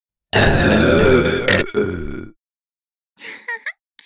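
Eight people belch at the same time on a count, producing a loud, layered two-second burp chorus, followed after a pause by a few softer, brief throaty sounds.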